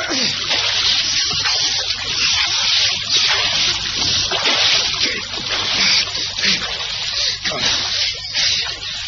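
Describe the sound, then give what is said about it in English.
Continuous splashing and churning of water as a man goes into the water to get an injured woman out, a steady rushing wash with irregular surges over about nine seconds, fairly loud and with no clear speech. “I had to go into that water and get her out.”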